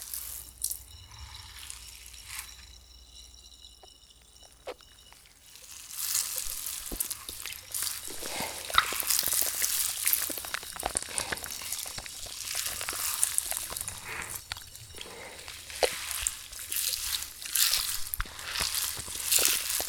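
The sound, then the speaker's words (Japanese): Carbonated shampoo fizzes and crackles on a scalp: a soft wet rustle that swells after a few seconds into a steady, bright, popping hiss with occasional squishy rubbing, and no talking. “炭酸シャンプー、本当に気持ちよさそうです。”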